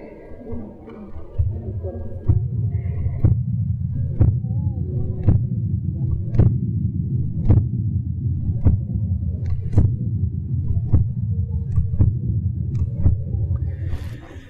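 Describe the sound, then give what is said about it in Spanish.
A baby's heartbeat heard through a stethoscope placed on a portrait: evenly spaced soft thumps, roughly one per second, over a continuous low whooshing rumble, fairly loud, with no talking. “Fue los latidos de un corazón humano de un bebé, porque el bebé late más rápidamente.”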